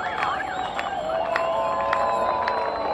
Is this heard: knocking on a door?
no